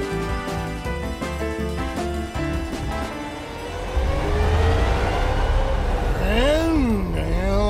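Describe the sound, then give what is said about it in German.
A car engine starts up loud, its pitch swooping up and down as it revs a couple of times; beforehand a steady tonal, musical-sounding hum plays. “Oh, ich liebe diesen Motorsound. Richtiges Original.”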